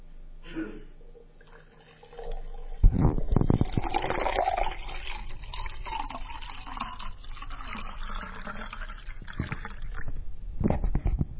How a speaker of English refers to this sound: Now, I have an illustration before I read the scripture. Putting a glass of water up here for those that are listening.